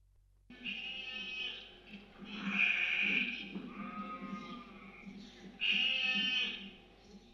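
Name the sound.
sheep bleating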